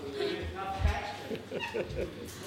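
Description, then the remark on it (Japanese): A small kitten cries out shrilly, a run of high, wavering mews close by, rising and falling one after another with little pause between them. “掂掂啊，有猫猫掂。”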